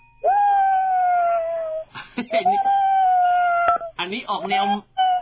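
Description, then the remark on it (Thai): A person imitates the howl of a cat that has seen a ghost: a long sustained wail, then a second drawn-out yowl, then broken, wavering cries that trail into a final short wail, all fairly loud. “อันนี้ออกแนวแมวหอนแมวเห็นผีใช่ไหมครับแมวอย่างนี้เลยโอเค”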